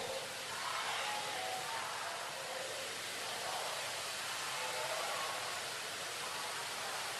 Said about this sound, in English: I want you to shout beyond the sound of the rain.